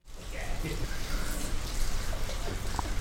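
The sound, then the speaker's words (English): Heavy rain pours down steadily at a Jewish camp in the North Georgia mountains, in the town of Clayton, in a dense, continuous hiss of drops pattering on surfaces, loud throughout, with no breaks. “Heavy rain falls at Ramah Darom, a Jewish camp whose Hebrew name means Southern High Place.”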